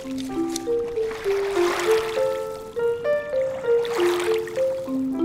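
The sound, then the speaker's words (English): Water laps and sloshes gently around a small boat out fishing on the Hudson River, in slow, rolling swells, with a soft melodic tune playing steadily underneath. “That's Karen Chi out on the Hudson River with Breida Green of the Radio Hour.”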